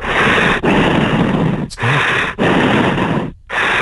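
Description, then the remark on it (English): A person imitates Darth Vader's heavy mechanical breathing: loud, rasping, hissing breaths in and out, about five long strokes separated by brief pauses. “Do I have to do the full kind of heavy breathing stuff?”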